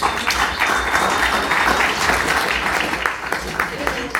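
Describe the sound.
Sustained audience applause, a dense crackle of many hands clapping steadily for about four seconds with a murmur of voices mixed in.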